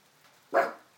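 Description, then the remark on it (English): A single sharp dog bark rings out, loud and abrupt, then fades quickly with no other sounds around it. “Don't bark at nothing.”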